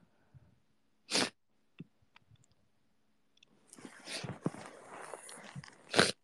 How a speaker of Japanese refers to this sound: もうマジで鼻すすってしまう。